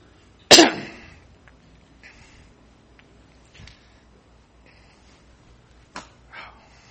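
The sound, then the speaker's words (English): A person coughs, starting with one loud, harsh cough, followed by several weaker coughs and throat-clearing sounds spread out over the next few seconds, with no talking. “Somebody got a lemon in their pocket. Maybe some honey. You got a cough drop?”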